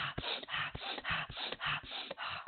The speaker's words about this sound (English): So some of the fast breathing is through the nose.